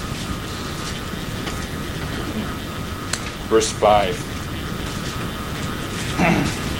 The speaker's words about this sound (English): That's probably the air conditioning. It's nailing it.